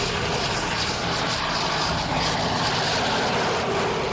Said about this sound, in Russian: Техника проходит контрольную обкатку. В деле проверяют все системы, как работают гусеницы, двигатель, тормоза.